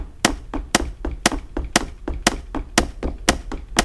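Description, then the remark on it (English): An audio game's radar scanning to the right to find doors, at the top of a staircase on the second floor: a steady series of about eight sharp, bright clicks, evenly spaced roughly twice per second, sounding alone with no speech. “Let's scan to the right with the radar.”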